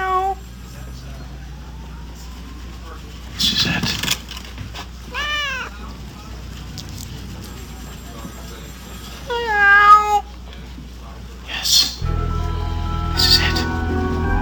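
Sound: cat meowing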